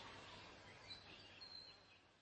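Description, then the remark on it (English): Birds squeal in a few thin, high-pitched, brief calls over a steady hiss of outdoor background noise; no one speaks. “Nothing but them wretched, unchristian birds squealing.”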